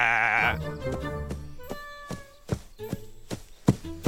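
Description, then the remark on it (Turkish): A goat lets out a loud, quavering bleat right at the start, then fades into quieter tonal sounds and a series of sharp, evenly spaced taps like hooves. “Ay, sonunda gelebildin canım keçi.”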